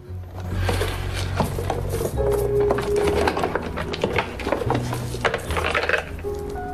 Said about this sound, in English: Mrs. X chooses shoes from a rack as Annie roots through a jewelry drawer.